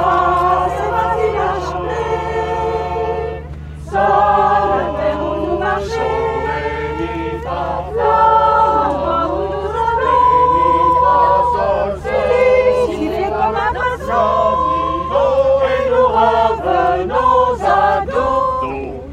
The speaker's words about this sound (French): C'est une chorale du troisième âge, et ils sont sur le quai, là, ici, à Palais, à Belle-Île-en-Mer, la moyenne d'âge de 70 ans, c'est génial. Des dames, des messieurs, tous aussi pimpants et gais les uns que les autres,